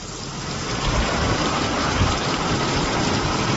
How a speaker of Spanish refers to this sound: Llueve en algunos puntos con más fuerza que otros y esta lluvia que suena es en el Valle de Temise. En Lanzarote, hace unos instantes caía con fuerza en esta zona del municipio de Aria, al norte de la isla de Lanzarote.